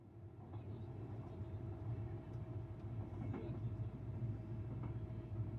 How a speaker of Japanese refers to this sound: 安全確認が取れましたので運転を再開いたします。列車動きます。